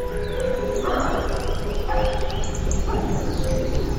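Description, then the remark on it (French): Gray wolves howling together, long sustained mid-pitched tones overlapping with higher rising and falling cries and a few short yips, continuous and fairly loud throughout, with no talking. “Pas si bête, une chronique sur le monde sonore animal. Aujourd'hui, le loup gris.”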